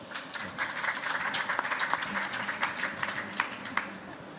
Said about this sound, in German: Herzlich willkommen und ein Applaus für euch.